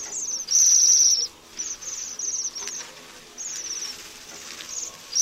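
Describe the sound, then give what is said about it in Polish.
High, soft trilling contact calls from a flock of a taiga bird that visits Poland only in winter, repeated every moment or so by one of the flock in short vibrating bursts, with one louder call at the start and fainter ones following, no voices present. “Jej głos kontaktowy jest delikatnie wibrujący.”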